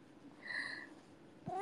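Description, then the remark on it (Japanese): A cat gives a drawn-out, fairly clear meow, then starts a second rising meow a moment later, with only a faint background hum and no talking. “にゃーん、だんのにゃーん、よいよいよい。”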